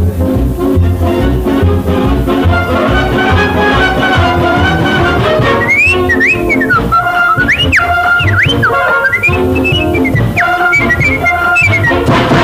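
A loud orchestral music track plays throughout, and about halfway in a bright whistled melody rises over it with sliding, swooping notes, carrying the tune to the end.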